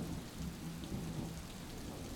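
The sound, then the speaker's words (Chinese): Steady rain hisses throughout while a low thunder rumble rolls underneath, fairly soft and continuous with no voices present. “被打雷了，我好害怕呀！”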